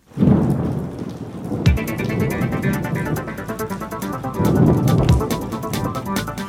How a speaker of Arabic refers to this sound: الجو غائم وماطر مع عاصفة رعدية، على أن يتراجع هطول الأمطار غدا.